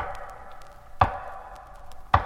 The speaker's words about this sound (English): Then came the same measured knocks I had heard before.